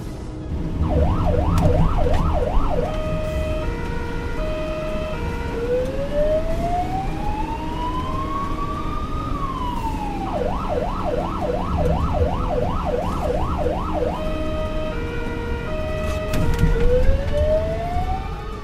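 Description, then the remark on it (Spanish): An ambulance siren wails loudly while responding to a call about a man who has fallen in the street, cycling between rapid warbling yelps and long rising-and-falling tones over steady traffic and engine rumble, with no one speaking. “Vamos a acompañarles en la ambulancia.”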